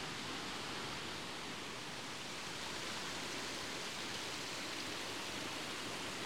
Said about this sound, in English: We're now at the top of that series of cascading waterfalls, and the path has plateaued out into another quaint little viewing area.